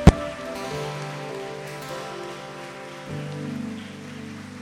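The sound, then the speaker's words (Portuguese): A church audience applauds the Lord in a steady, dense patter of clapping that continues for several seconds, mixed with sustained keyboard chords that shift to a lower harmony partway through. “Vamos aplaudir mais uma vez ao Senhor.”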